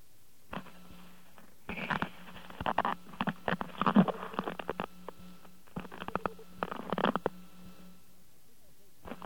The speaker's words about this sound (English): And would you mind hearing a strange phone sound that I happen to have come across?